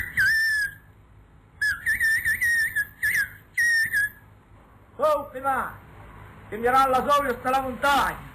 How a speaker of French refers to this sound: Parole sifflée du Béarn, enregistrée par un de vos maîtres. Ouais, voilà. C'est enregistré par René Guy Busnel. Je pense que cet enregistrement date des années 60.